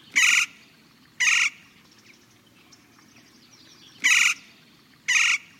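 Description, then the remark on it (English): Desert woodpecker calls: four loud, harsh, raspy squawks, each brief, arriving in two pairs with a pause between them, over a faint low background rumble. “The gilded flicker and the Gila woodpecker, species adapted to desert life, carve out nest cavities in living saguaros.”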